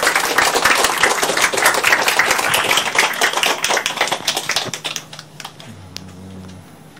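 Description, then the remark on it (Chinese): An audience at a lecture applauds to welcome Venerable Master Bao Zhen, with dense, steady clapping that stays loud for several seconds, then thins out and fades, leaving a low hum and a few scattered claps. “好啦，即刻进入讲座部分，请大家用热烈嘅掌声邀请宝珍法师。”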